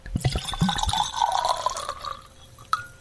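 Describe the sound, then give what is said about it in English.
Wine pours into a glass as a small pour, with a gurgling, rising fill lasting about two seconds, clear, then trails off; a single light clink follows near the end. No one speaks. “Well, let's take a little pour and see what we come up with.”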